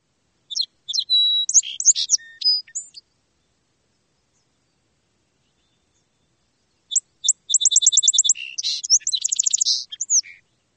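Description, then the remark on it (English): A song sparrow sings in a marsh, two clear phrases separated by a few seconds of silence, each opening with sharp notes and breaking into a fast, bright trill, with no other sounds. “Listen for the melody of the song sparrow behind you or farther out in the marsh.”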